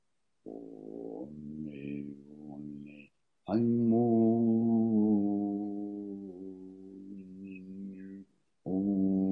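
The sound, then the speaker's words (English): A person hums a low, sustained vocal tone out loud as a chakra exercise, aiming the vibration just below the belly button, holding each steady note for several seconds with brief pauses for breath between them, fairly loud. “Now make it out loud.”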